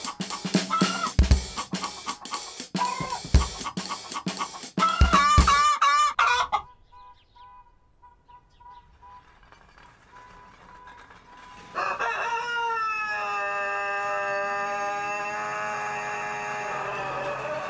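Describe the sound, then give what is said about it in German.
A vaccinated hen clucks loudly and agitatedly in rapid, squawking bursts, falls almost silent for several seconds, then lets out a long, sustained, bellowing call. “Was ist denn los mit deiner Henne? Was soll denn sein? Die rührt da wie ein Hirsch.”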